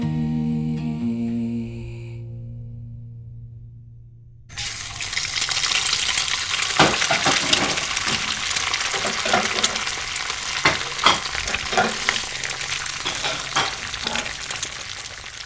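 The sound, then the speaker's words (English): After a few seconds of sustained, held musical tones, a loud, steady sizzle of eggs and plantain frying takes over, full of crackling and sharp, irregular pops, with no voices. “The eggs are ready. The fried plantain and steam cabbage is already on the table.”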